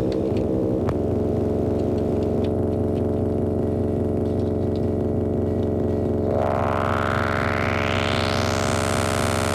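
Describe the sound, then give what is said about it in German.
A dry analog synthesizer drone plays alone without reverb, echo or other effects, a thick buzzy sustained tone that stays steady, then its filter sweeps open near the end and the sound grows brighter and hissier. “Ja, wir hören jetzt auch ohne Hall, ohne Echo, also ganz ohne Effekte, wie das Gerät in sich klingt.”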